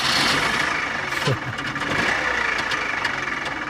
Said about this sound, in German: Also, dass es ein Motor ist, das kann man ja schon irgendwie hören, oder? Aber es ist ein besonderer Motor. Ein Motor, der in einem Auto drin ist, aber so wahrscheinlich nicht mehr gebaut wird. Ein Motor von einem Trabi. So klingt ein Trabi